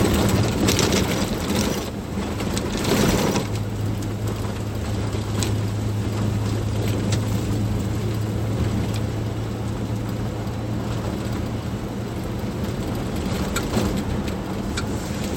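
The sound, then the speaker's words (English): Steady interior rumble of a car driving on a rough, muddy road in strong wind, with a constant low engine drone, occasional thumps and bursts of buffeting wind noise throughout, no voices. “Strong wind.”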